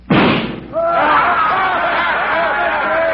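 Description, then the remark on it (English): A single sharp pistol shot, fired at a little gold eagle on a flagpole across the street and missing it, cracks out loudly and fades over about half a second, then a crowd of voices breaks into overlapping chatter and murmuring. “You're all the time boasting about what a crack shot you are. Think you can hit that little gold eagle on that flagpole across the street?”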